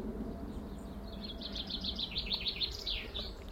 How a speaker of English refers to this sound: It's funny what you find in the garden. Birds nesting, birds. I see birds still collecting nesting materials, and yet they've already reared at least one, maybe two broods.